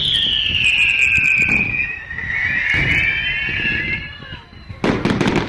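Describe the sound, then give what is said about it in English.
Colored aerial fireworks shells launch from mortars, their high whistles gliding downward as a few heavy bursts thump out, ending in a loud, crackling burst of sparks. “Next, a series of colored aerial bursts, each launched from a mortar with a forceful shoom.”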